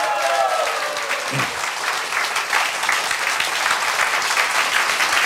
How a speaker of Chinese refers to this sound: 要不要给古德先生掌声鼓励一下？